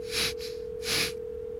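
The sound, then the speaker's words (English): A steady electronic ringback tone of an outgoing phone call hums through the whole moment, with two sharp, breathy gasps rising over it, one near the start and another a little later. “I need to call Myra.”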